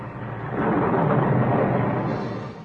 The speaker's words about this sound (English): Are we safe in such a storm? Perfectly. The house is built on solid rock. It can't be moved.